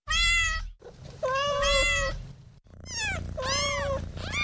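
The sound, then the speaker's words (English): A cat meows several times in a row, loud, with long drawn-out wavering cries and a low rumbling undertone between them; no one speaks. “is this podcast about English or about cats?”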